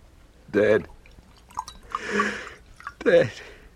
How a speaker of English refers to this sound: Sit, and I'll pour you a brandy.